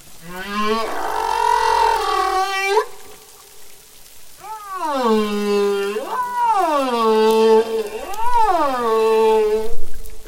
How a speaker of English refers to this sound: With humpback whale song, it's only the males that are singing, and the song functions in something to do with sexual selection, whether they're displaying to attract a female or to tell rival males